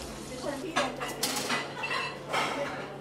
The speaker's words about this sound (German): Möhren, Kartoffeln, Zwiebeln, dazu ein paar Hühnerflügel. Alles kommt in einen großen, verbeulten Blechtopf, brodelt über offenem Feuer.